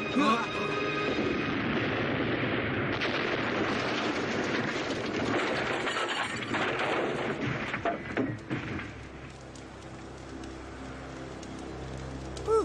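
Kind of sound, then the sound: impact, explosions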